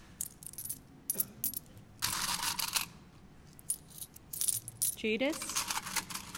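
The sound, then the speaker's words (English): Silver coins clink and chime in a quick, irregular series of bright jingles, fairly loud, as thirty coins are dropped and counted out one after another. “They counted out 30 silver coins and gave them to him. I'm just going to do that now.”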